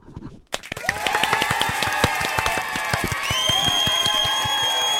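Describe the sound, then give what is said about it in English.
After a brief hush, a studio audience of a pre-recorded quiz show, welcoming the show back after the break, breaks into sustained clapping, with many overlapping claps at an uneven rhythm and high, drawn-out whoops and cheers riding over it, loud and steady to the end. “Give me some claps, please.”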